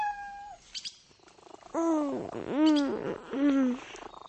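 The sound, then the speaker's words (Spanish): A kitten purrs, its soft rumble broken by three drawn-out, rising-and-falling meows in quick succession. No one speaks. “me despertaste. Gatito travieso.”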